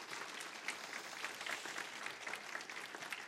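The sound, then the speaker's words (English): A church audience claps together in steady, dense applause welcoming back a longtime member, sustained and even for a few seconds, with no voices standing out. “Let's give a round of applause and a welcome back.”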